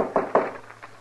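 Two firm knocks on a wooden door, evenly spaced, followed by a couple of softer taps, with no voices.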